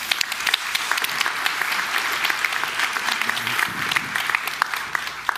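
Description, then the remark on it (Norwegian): Steady applause from an audience, a dense patter of many hands clapping at an even, sustained level throughout, with no voices rising above it. “Tusen takk til deg, Guro. Applaus!”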